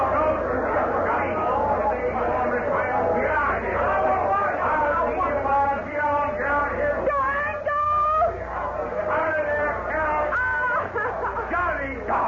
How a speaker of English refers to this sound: Come on in this shack here so we can get away from this blasted crowd.